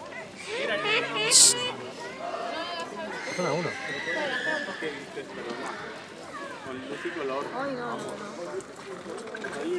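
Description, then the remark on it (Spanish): Baboon calls, a steady stream of wavering, whinny-like cries and barks, rising and falling in pitch, mixed with busy background chatter from people throughout. “Se llama papión. Pues hacían más ruido antes, ahora.”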